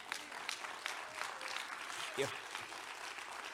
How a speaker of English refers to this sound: They deserve a big round of applause.